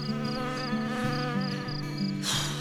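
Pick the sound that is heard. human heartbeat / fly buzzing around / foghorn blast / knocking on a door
fly buzzing around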